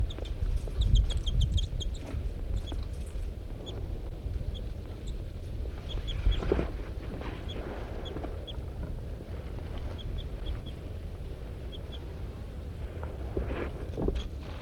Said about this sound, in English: This is the pair of birds harassing M4.